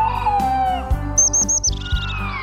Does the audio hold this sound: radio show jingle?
yes